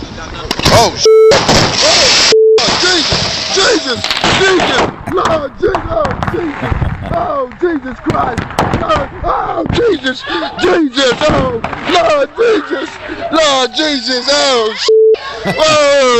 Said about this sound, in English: Then he realizes things are okay and he gets happy again, but then the bush behind him catches on fire and he's scared again. This is really like watching Titanic in 40 seconds here. Here's the bootleg firework tape.